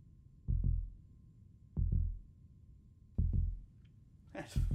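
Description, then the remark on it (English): A muffled heartbeat heard through a stethoscope: three deep, low double thumps at a steady, fairly slow pace that is slowing down, dull, then a brief rustle of movement at the end. “I'm going to listen to your heartbeat.”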